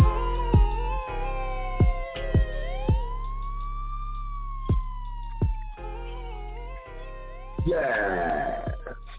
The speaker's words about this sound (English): Headshots fired, man down. Ambulance, cop sirens, somewhere around.